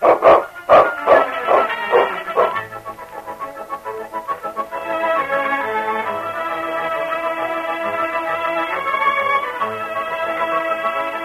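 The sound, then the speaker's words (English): The dog King in Challenge of the Yukon barks sharply several times in quick succession near the start, then sustained orchestral music takes over and plays on steadily with no voices. “That rotten dog.”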